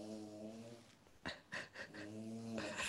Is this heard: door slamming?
no